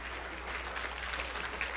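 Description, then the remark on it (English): An audience claps for God together in a dense, steady wash of many hands, sustained evenly throughout with no one speaking over it. “Give God a hand clap.”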